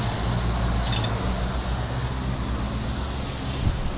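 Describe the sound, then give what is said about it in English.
A car rumbles past behind the speaker on a wet street in pouring rain, its low engine drone blending with a steady, loud wash of rain hiss throughout. No one speaks. “Oh, car behind me.”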